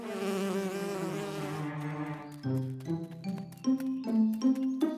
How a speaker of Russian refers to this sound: Ой, пчела! Испугался? А чего это она разлеталась?